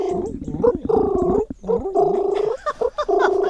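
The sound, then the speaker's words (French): A person imitates a pigeon's cooing, producing several throaty, rolling coos in bursts with brief pauses between them, warbling and gurgling in pitch. “Et le pigeon, il fait”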